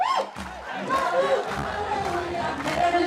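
A large crowd at an NLD campaign concert shouts and screams together in a loud, sustained roar, chanting "Are you ready?" and "For real change, vote NLD," voices rising in a rhythmic chant with rough, strained tones that swell and hold for several seconds.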